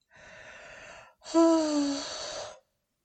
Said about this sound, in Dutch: Oh. Ah. En misschien moet jij ook heerlijk met mij gapen.